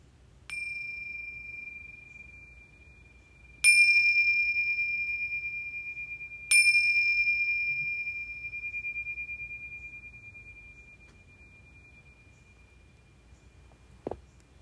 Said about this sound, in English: And so we'll begin this practice now, just giving ourselves time to settle in and be a little quieter again, listening to the bells to help us do that.